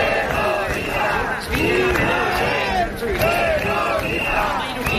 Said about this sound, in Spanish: Estos son los gritos ayer, de cientos de personas en Bilbao.